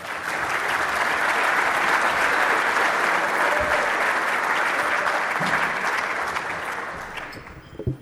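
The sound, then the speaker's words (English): Sustained applause from an audience welcoming a speaker to a talk on wood anatomy, wood treatments and aging, at a steady, dense level for several seconds, then beginning to thin and taper off near the end. “So please, a round of applause for”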